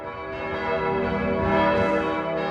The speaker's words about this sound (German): Die Glocken des Frankfurter Doms rufen die Gläubigen zum Gottesdienst.